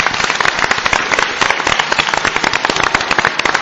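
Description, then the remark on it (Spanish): A crowd applauds steadily, a dense, crackling wash of many hands clapping at an even loudness throughout, with no voices heard over it. “Se merece un aplauso, ¿eh? Yo creo que sí.”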